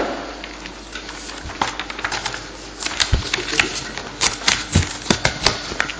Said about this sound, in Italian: Sì, mancava proprio una pagina. Sì. Allora adesso lo ristampiamo.